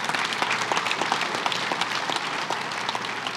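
An audience breaks into steady applause, many hands clapping at once in a dense, even wash of sharp claps that holds at a fairly loud level throughout.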